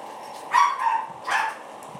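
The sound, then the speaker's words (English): An unhappy dog lets out two strained, whining barks about a second apart, with a steady low hum in the background. “That poor dog's not very happy, is he?”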